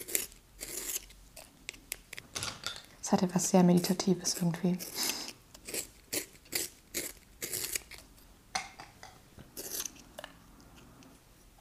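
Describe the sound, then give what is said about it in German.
Colored pencils being sharpened, a run of short, crunchy scraping bursts in an irregular rhythm, with a person briefly speaking partway through. “Na dann werde ich jetzt mal eine Runde diese Stifte anspitzen.”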